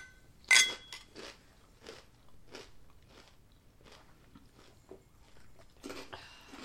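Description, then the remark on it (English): A sharp, loud bite into crinkle-cut potato chips, followed by steady rhythmic crunching chews, then another crisp crunch near the end. No one speaks. “Okay, I'm ready for a crinkle cut.”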